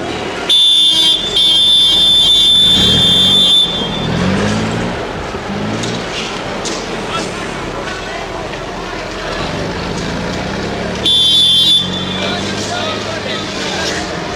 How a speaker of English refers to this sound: With General Mackenzie's white UN car in the lead, the convoy headed out. It was surrounded on all sides by Bosnian government forces eager for revenge.